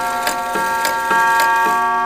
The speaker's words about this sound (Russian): Но мы пошли в тот зал, где тикают не прекращая и бьют ежечасно самые громкие из них.